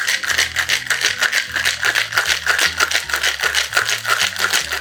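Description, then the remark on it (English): A cocktail shaker filled with ice, dry French vermouth, Kirsch cherry brandy and strawberry syrup is shaken hard and fast to make a cocktail, ice rattling in a steady, rapid rhythm of bright, clattering bursts for several seconds, with a low musical bassline underneath and no talking. “And 3 dashes of strawberry syrup. And shake away.”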